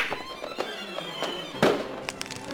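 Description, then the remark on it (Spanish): A string of sharp, firecracker-like pops and cracks bursts at irregular intervals, one louder blast in the middle, over a bright fizzing hiss, as celluloid billiard balls explode and catch fire after the cue ball is rolled into the rack and their rubbing sparks. “Sonó a pura chinampina.”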